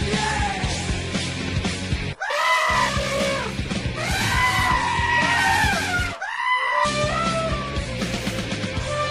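Amateur tennis players' noises during a doubles match: loud, drawn-out, bleat-like vocal cries and shrieks in several long bursts, broken by two brief pauses, over a steady low rumble.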